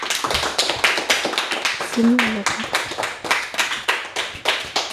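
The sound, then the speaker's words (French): A live audience at a public recording claps steadily to encourage a person about to read a story aloud, a dense patter of many hands sustained throughout, with a brief murmur of a voice rising partway through. “On précise qu'on est en public aujourd'hui et je pense que le public peut vous applaudir bien fort pour vous encourager.”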